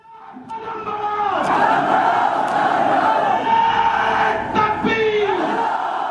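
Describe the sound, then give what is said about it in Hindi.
A large, angry crowd of Muslims gathered inside a mosque in Bhopal, angered by the alleged encounter killing of 8 SIMI activists, shouts in unison, a loud, continuous roar of many overlapping voices with rising chant-like cries that swell and dip but never stop for about six seconds. “यह आवाज भोपाल के एक मस्जिद के अंदर इकट्ठा हुए मुसलमानों की है, जो शहर में हुई 8 सीमी कार्यकर्ताओं की कथित मुठभेड़ को लेकर खासे नाराज हैं।”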